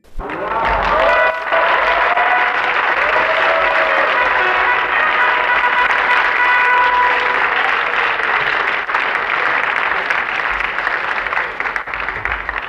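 Sustained applause from a large theatre audience at the Golden Masks (Złote Maski) award ceremony, loud and dense for the whole stretch, with scattered cheers and whistles rising above the steady clapping.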